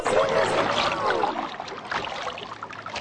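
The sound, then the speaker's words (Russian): River water churns and splashes, rippling and spreading in large circles, with a swirling, bubbling rush at first that settles into a steady, noisy lapping. No one speaks. “Вода в реке дрогнула, покрылась рябью. По ней пошли большие круги”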